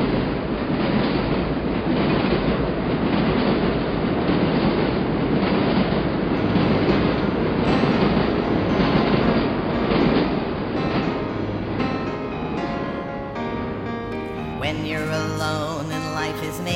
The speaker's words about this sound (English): Come on, let's go in the subway. Where are we going? We're taking the number one train, downtown.